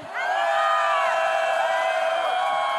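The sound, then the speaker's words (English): A large crowd, asked to scream as loud as it can after a count of three, screams and cheers loudly and continuously, a dense wall of high-pitched shrieks and whoops that starts abruptly and holds steady throughout. “When I count to three, scream as loud as you can.”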